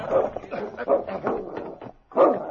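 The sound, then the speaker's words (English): A dog, Great Dog King, barks, growls and whines in a quick run of short, yelping bursts with brief pauses between them, ending in a higher whining cry, as it sniffs the ground on catching a scent and goes to the door of a deserted cabin in a canyon. “He sniffed the ground, barking and growling, then went to the door of the cabin and whined”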